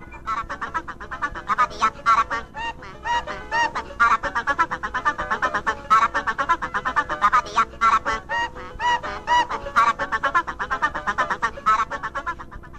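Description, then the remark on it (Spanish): The zany call of the Aracuan, an eccentric cartoon bird, chatters and squawks in rapid, honking bursts, loud, repeating almost nonstop for several seconds with only brief pauses and no talking. “I would like to have you meet one of the most eccentric birds you have ever seen. His name is the Araquan.”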